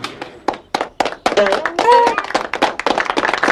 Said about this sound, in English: How are we clapping? I have no idea.